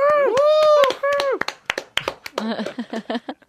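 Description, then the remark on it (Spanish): Scattered sharp hand claps with a voice whooping and cheering over them, mimicking a sitcom audience's applause on an entrance. The claps come in an uneven burst and fade after a few seconds. “Otra cosa que mola de la sitcom es cuando alguien entra en un espacio recurrente y la gente aplaude, como por ejemplo, imagínate que entra”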